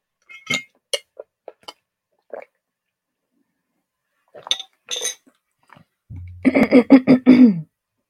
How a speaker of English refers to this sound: And I'll take a sip of water.